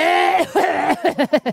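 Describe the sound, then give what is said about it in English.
A deliberate series of short voiced coughs, about five or six throaty bursts that come quicker and choppier toward the end, with no other talking. “people are probably curious now how I cough. I'll do a little cough for you.”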